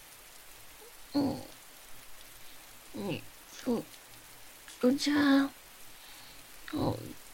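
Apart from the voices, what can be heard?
rain falling outside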